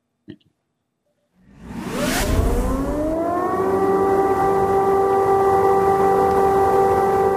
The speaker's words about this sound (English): Soviet-era air raid sirens once again echoing through the streets of Kyiv today, warning people to take shelter immediately. The wailing sirens have become a constant background noise across cities in Ukraine.